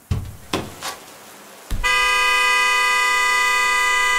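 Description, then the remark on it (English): A few dull thumps and knocks, then a fist slams into a car horn and it blares in one long, loud, unbroken blast that holds a steady, buzzy pitch until the end. “Before my better judgment had a second to catch up with my body, I had already thrown open my car door, taken a step out, and slammed my fist into the horn.”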